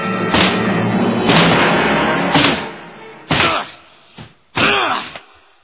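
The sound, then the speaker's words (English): A door being broken down: a long stretch of heavy crashing and splintering thuds, then three separate loud blows with short gaps between them, and no voices. “Will you open that door or do I have to break it down?”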